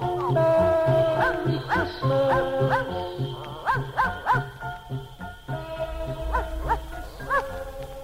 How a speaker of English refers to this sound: Cause Boo-Bo goes where Santa goes, and children know where Boo-Bo goes on Christmas Eve when all is dark. Children hear Boo-Bo bark. Hurry up, Boo-Bo, hurry up.